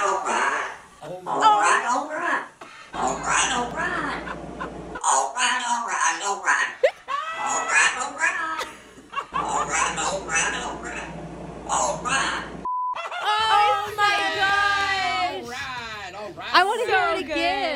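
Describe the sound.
Several people mimic a talking parrot, squawking in shrill, nasal, warbling voices that rise and fall in bursts, growing louder and more pitched toward the end.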